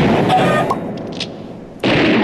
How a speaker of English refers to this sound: Wow, a lot of shooting and explosions going on.